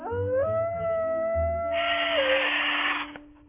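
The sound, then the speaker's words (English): A voice imitates a dog's howl: one sustained, wavering tone rising slightly then holding steady for about three seconds, with a breathy hiss joining partway through before it fades. “I can bark. And here's howling.”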